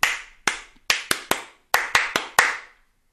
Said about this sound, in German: Das ist das andere. Das ist die andere dieser andere Klatschrhythmus, den ich jetzt noch nicht kenne.